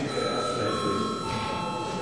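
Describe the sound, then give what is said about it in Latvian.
A bell rings continuously in a steady, sustained tone to call a parliamentary vote on a budget bill, with a low murmur of voices beneath it. “Lūdzu zvanu.”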